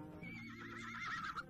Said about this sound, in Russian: Не волнуйтесь, сударыня, перед вами лошадь.